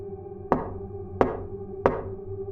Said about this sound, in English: Just like clockwork, there were three gentle, spaced-out knocks.